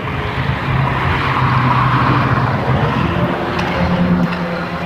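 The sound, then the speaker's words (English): A lawnmower engine drones steadily the whole time, a loud, rough, buzzing hum with a low pitched growl that holds even with only slight wavering. No one speaks. “Oh, the noise is from the lawnmower.”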